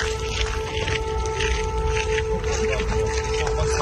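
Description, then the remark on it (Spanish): A steady, wailing air raid siren in Kyiv, Ukraine, in the early morning hours during a Russian attack with drones and missiles, holds a sustained tone over a low rumbling background, keeping an even loudness throughout with no voices present. “Es el sonido de las sirenas durante la madrugada.”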